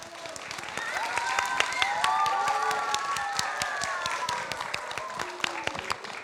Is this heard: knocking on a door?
no